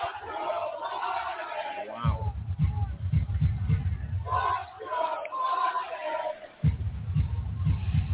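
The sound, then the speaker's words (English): A huge outdoor concert crowd chants an insult at Joe Biden in unison, a loud rhythmic roar of many voices with booming low-end pulses, swelling and dipping briefly before surging again. “the crowd, I don't know who he is, started chanting, and I don't know what.”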